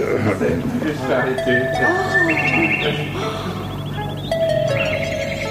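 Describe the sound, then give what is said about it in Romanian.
A nightingale sings a bright, warbling song of clear whistled notes and quick rattling trills, fairly loud, running continuously over a dense, busy background. “Unde e privighetoarea?”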